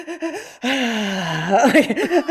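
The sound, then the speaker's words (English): A person imitates the heavy, sobbing breath of a large golden retriever of about 80 pounds: a few quick shaky intakes, then one long, drawn-out, voiced wail that breaks into hiccuping, wavering gasps at the end. “Earlier, he was next to me, and he was doing this.”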